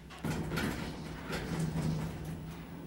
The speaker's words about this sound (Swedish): Hiss för uppfärd. Dörr stängs.